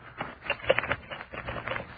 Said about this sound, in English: Oh, I like the sound. Money, yellow money.